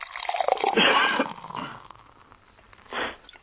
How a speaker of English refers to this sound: Yeah, that beer pour right there. We're probably going to hear a lot of that this weekend.